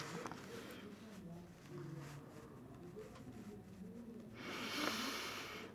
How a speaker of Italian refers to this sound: Io poi faccio anche degli ampi respiri che di solito poi voi sentite nella registrazione.